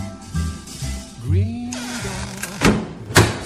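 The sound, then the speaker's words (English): A door creaks with a rising, groaning squeak, then shuts with two dull thuds, the second slightly louder, against a quiet low hum; the chat room door closing at the end of the Green Door Studios chat room programme on Flame CCR. “We've closed the chat room door, but please tune in next time to Flame CCR on 1521 Medium Wave for more from Green Door Studios chat room.”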